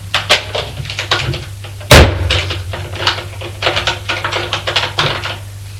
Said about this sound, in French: Regardez-moi ça. Elle ouvre les placards.